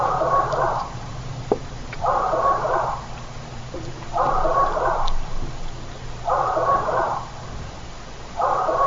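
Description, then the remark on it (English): A curious, small-dog-like bark repeats five times at a steady pace, each call a short, hoarse burst about a second apart, heard alone over a low background hum. “We got a curious bark here.”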